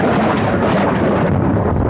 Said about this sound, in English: Can I hear thunder?